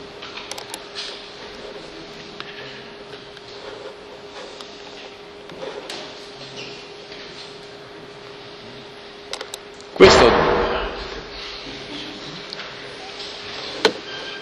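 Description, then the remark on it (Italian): A small door bangs shut once with a loud, sharp clatter that rings briefly, set against a steady mechanical hum and faint rattling in the background. “Quella porticina che sbatte?”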